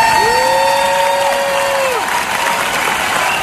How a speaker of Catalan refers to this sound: Uns aplaudiments per Harrison Ford, que ahir va rebre també, i per sorpresa, una palma d'or honorífica, que va encaixar clarament emocionat i amb llàgrimes als ulls.